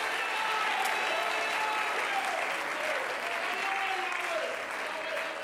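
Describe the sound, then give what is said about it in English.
An audience claps for the Lord, steadily and loudly for several seconds, a dense, even wash of many hands with faint sustained tones drifting underneath. “If you're going to clap, clap for the Lord.”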